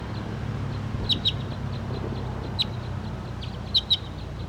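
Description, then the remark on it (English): A wild bird gives five short, high chirps, mostly in quick pairs, separated by pauses, over a steady low rumble; the calls stand out fairly clearly against the background. “And the wild bird and 5'7" are calling on the side right here, but this is 301 pointing at.”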